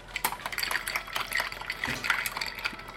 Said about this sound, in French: Alors là, j'ajoute du jus de citron pressé qu'on presse nous-mêmes à la main. Pour donner encore plus de goût citronné à la cachaça.